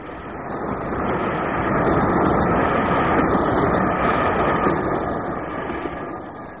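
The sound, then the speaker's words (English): A loud, roaring rush of an express train thundering through a station past the edge of the platform, swelling quickly to a heavy sustained rumble and easing off slightly toward the end, with no voices. “I was standing on the edge of the platform as the express came thundering through the station.”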